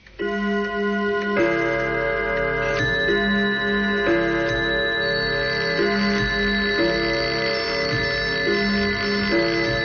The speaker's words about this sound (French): l'opération Flash Mob, qui aura lieu dans de nombreux pays, consiste à faire sonner vos réveils